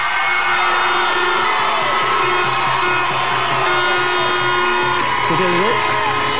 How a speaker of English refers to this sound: But I want ye, as these players and management team, go down to those steps and go down that bus. I want to give them the biggest round of applause of all time. Show them in.